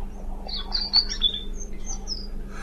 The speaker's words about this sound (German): Nein. Das war das Rotkehlchen.